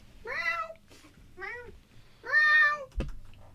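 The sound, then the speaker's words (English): Several voices imitate a cat's meow, overlapping in a few drawn-out, rising-and-falling mews, the loudest near the end, followed by a sharp thump. “Can we get one from everyone at the same time? Meow. Meow. Meow.”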